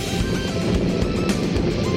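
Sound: rocket launch engine roar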